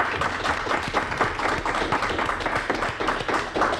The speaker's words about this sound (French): C'est une chanson que vous ne trouverez pas dans les bacs, puisque c'est une école, en fait, de Mantes-la-Jolie, avec des élèves qui sont venus ici dans les studios la chanter. Ça s'appelle Allez, on part, et je crois qu'on peut les applaudir.